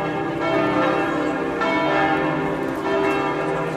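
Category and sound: signal or alarm, church bells ringing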